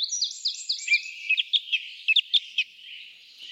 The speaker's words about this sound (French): Le chant d'une grive musicienne, enregistré par Jean-Claude Rocher.